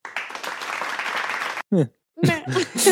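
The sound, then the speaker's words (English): A short burst of lukewarm crowd applause sound effect, a scattered patter of claps lasting about a second and a half before cutting off abruptly, followed by a voice speaking. “to an apathetic crowd.”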